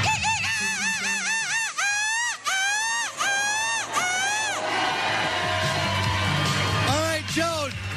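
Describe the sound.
A person loudly imitates a seagull in a seagull screeching contest, letting out a rapid series of shrill, wavering squawks before a crowd bursts into cheers and whoops, then a few more squawks over the applause.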